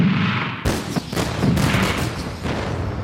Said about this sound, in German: Ein französisches Kanonenboot, gesteuert durch Nina, eröffnet das Feuer auf den Hafen von Liverpool.